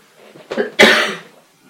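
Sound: coughing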